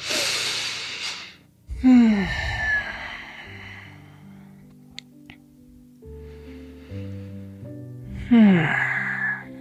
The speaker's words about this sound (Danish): Så tager vi lige et par vejrtrækninger her i high lunge.